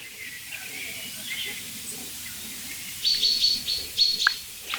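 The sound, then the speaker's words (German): High-pitched bird calls ring out in a few short bursts over a steady outdoor hiss, starting quiet and growing louder in the second half, with one sharp peep near the end. “Also, so ein bisschen vom Gefühl her klingt es wie eine Eule.”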